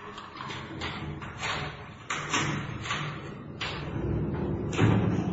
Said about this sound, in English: Arthur was pushed forward and the door was slid to and locked.